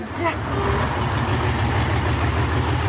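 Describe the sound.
A bus engine idles with a steady low rumble that holds unchanged for the full three seconds, with faint indistinct voices mixed into the background; a group is taking the bus into Serbia.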